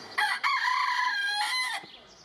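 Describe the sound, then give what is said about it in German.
A red junglefowl (Gallus gallus) rooster crows once, a loud, harmonic call with a short opening note and a long sustained middle that cuts off abruptly, with no talking. “Und Gallus Gallus übrigens, das ist dieses Urhuhn, lebt bis heute noch und tönt auch noch durch die Dschungel Südostasiens.”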